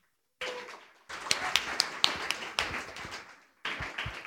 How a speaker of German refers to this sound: Macht mal einen Applaus für euch selber.